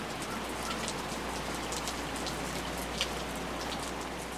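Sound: rain falling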